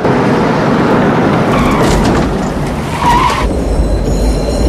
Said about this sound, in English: Below, the car speeds towards a train station.